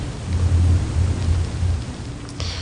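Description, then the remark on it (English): Steady rain pours down in a dense hiss, with a deep rumbling undertone like thunder rolling beneath it; no voices are present. “So the sound of water and sounds themselves are a traditional meditation object.”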